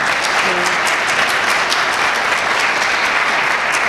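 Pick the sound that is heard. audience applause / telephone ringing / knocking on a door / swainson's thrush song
audience applause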